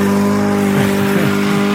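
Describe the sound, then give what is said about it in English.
A small lawn mower engine, heard in a sped-up video, whines at a high pitch, holding a steady drone with brief wavering revs. Loud, with no talking. “is yours like 55,000 RPMs? Listen to this thing.”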